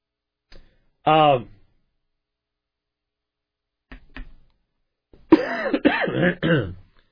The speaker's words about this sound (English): The old voice has been going for an hour and 45 minutes now, and the old cough is wanting to come back.